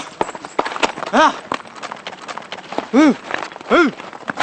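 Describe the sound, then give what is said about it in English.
Hooves of pack horses carrying supplies to a forward base camp for Pakistani soldiers in a border area of Pakistan clip-clop steadily in an irregular walking rhythm, broken three times by short, rising-and-falling tonal calls that stand out above the clatter. “use pack horses to carry supplies to a forward base camp.”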